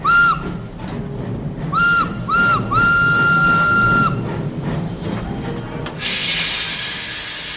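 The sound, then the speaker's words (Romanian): A steam train arriving at the station in Iești sounds its whistle in a steady, high tone: three short toots, then one long blast, over a low rumbling chug. A loud hiss of released steam follows. “Am ajuns în gara din Iești, frate, să coborăm.”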